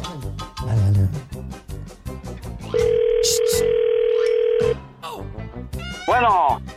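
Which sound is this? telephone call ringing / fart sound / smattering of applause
telephone call ringing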